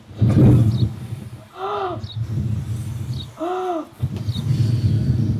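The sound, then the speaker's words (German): A large audience, adults included, blows and huffs loudly together on a count of three, imitating the wolf blowing down the little pig's house, in long noisy bursts, with two short wavering howl-like voices rising between them. “dann will ich husten und pusten und werde das Haus niederblasen”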